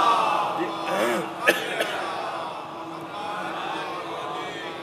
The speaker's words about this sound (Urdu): صلوات پڑھیں ذرا محمد و آل محمد